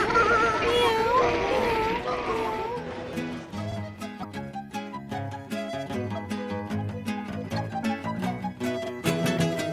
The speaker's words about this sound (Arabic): مياو مياو.